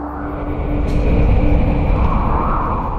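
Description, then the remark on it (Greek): Loud, steady roaring wind with a low rumble and a thin, faint whistling tone, swelling in strength partway through and again toward the end. No voices. “Ο άνεμος φυσήξε ακόμα πιο δυνατά.”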